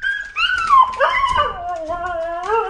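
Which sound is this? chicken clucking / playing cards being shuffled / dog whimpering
dog whimpering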